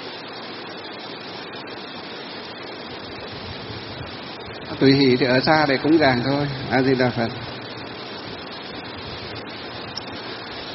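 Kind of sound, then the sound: nature, heavy rain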